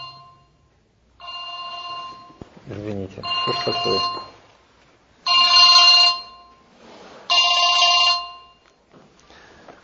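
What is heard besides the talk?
telephone ringing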